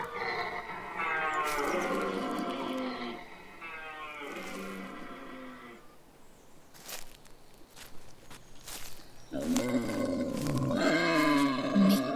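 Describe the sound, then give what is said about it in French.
A stag (male deer) bellows its rutting call: three long, deep, groaning roars, loud, with a quieter stretch of rustling and scattered footstep-like sounds before the last call. “C'est le cerf qui brame.”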